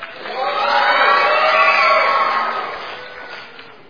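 The green team shouts its team cheer together in one sustained, loud burst that swells over the first second and gradually fades out by the end, with no distinct words. The cheer is scored for energy, volume and participation.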